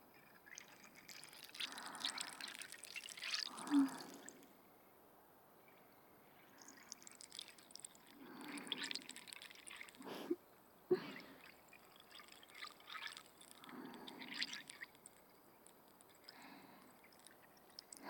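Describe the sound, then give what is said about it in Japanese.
Soft fizzing of carbonated bubbles crackling and popping in several gentle waves, with brief wet drips and trickles between the swells. “力抜いて、頭の中を炭酸泡で溶かしちゃおうね。”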